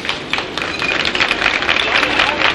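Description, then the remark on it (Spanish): A crowd of spectators in Madrid applauds the return of Picasso's Guernica as it enters the Museo del Prado annex at the Buen Retiro, a dense wash of many hands clapping at once, fairly loud and sustained throughout, with a faint murmur of voices mixed into the noise. “Son los aplausos de los espectadores.”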